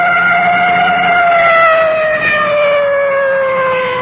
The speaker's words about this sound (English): Coming up to a large intersection, now you can hear that full treatment on the siren.